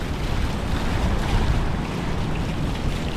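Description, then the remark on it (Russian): Ocean waves splash and churn continuously in strong wind that carries the spray, a loud, steady roar of water and gusts buffeting the microphone, with no voices. “Видите, как тут брызгает, между прочим, сейчас как бы нам на камеру не набрызгало, тут ветром несет.”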